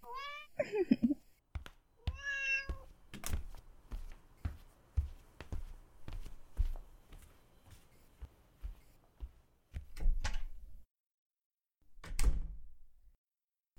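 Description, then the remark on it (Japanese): A freshly shampooed cat meows twice, a rising, wavering cry and then a shorter one, as it is given a chicken-tenderloin treat, followed by a steady series of soft knocks and thumps with a few sharper taps near the end. “ほんと、ちゃっかり猫だな、お前は。”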